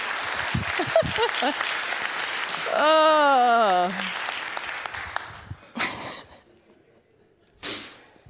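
An audience claps steadily for a few seconds, a wavering whoop or cheer rising over it midway, then the applause fades out, leaving a couple of short scattered bursts of noise.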